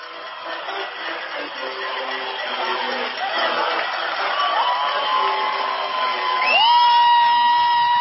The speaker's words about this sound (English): And boy, oh boy, this Reading crowd has come alive.